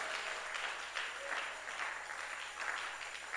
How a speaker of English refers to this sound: Receive this with a shout and with a major clap offering. Amen.